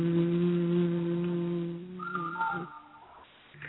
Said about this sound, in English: Hands still above your head. Bend down to touch your toes. Low hum going down. Hum.